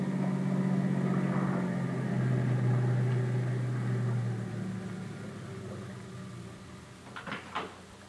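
A car approaches, its engine's low rumbling drone easing down in pitch and volume as the vehicle slows, with a couple of brief knocks near the end.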